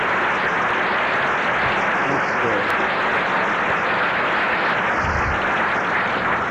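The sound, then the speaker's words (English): A crowd at a meeting claps steadily and loudly for newcomers with 30 days or less since their last drink or pill, a dense, continuous wash of hand claps that stays even throughout with no voices breaking through. “Enjoy the applause.”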